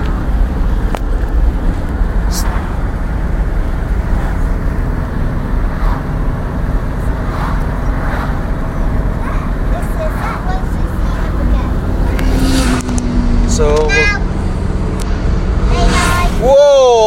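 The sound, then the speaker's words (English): A motorbike charges past, going westbound on the A303 by Stonehenge, over a constant, heavy road rumble, its engine whine rising and falling in pitch as it passes, with another rising whine near the end. “Motorbike's charging past us here.”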